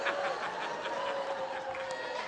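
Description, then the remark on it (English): A voice imitates a honking goose, making a loud, nasal, drawn-out honk that runs unbroken for a couple of seconds over a faint noisy background. “Like a Canadian goose lost in a thunderstorm.”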